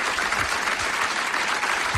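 Sustained audience applause at the award presentation of a barista competition, 14th edition, as the second-place finisher receives her award: a dense wash of many hands clapping at a steady loud level throughout, with no voices standing out above it.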